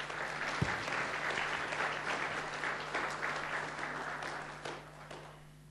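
An audience claps steadily for several seconds, a dense, even patter of many hands at fairly constant loudness that tapers slightly toward the end. A low steady hum runs underneath.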